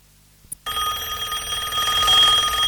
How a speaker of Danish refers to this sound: Ja, det er faktisk en rigtig gammeldags amerikansk telefon her.